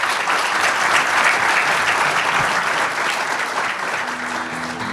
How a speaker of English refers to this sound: So wait, can you all stand up? I want to get these out of the way and let's stand up and then we can give them a very well-deserved round of applause.